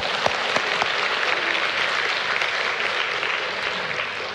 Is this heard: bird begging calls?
no